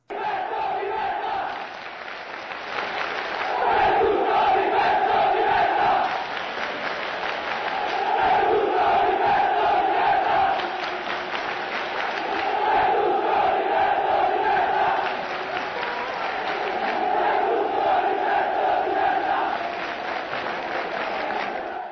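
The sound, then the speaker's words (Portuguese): A large crowd of Livorno football fans inside the San Siro stadium chants a rhythmic protest chant against Berlusconi in unison, swelling in repeated loud waves with a steady cadence and a roar of many voices underneath. “Vamos lá, vamos ouvir a criativa torcida do Livorno fazendo um protesto dentro do San Siro.”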